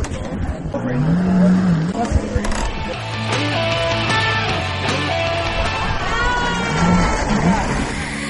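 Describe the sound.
A jet ski engine revs up and down in loud, repeated surges, with a steady motor drone in between and indistinct voices chattering underneath, as a family, including a four-year-old nephew, rides the jet ski on the sea.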